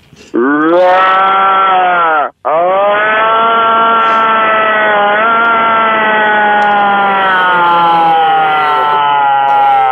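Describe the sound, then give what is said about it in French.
A person imitates a moose mating call through a phone on speakerphone turned up as loud as possible: a loud, nasal, moaning bellow held for over a second, broken by a brief pause, then drawn out into one long wavering wail. Thin, telephone-like quality. “OK, alors allez-y pour le call d'orignal, là,”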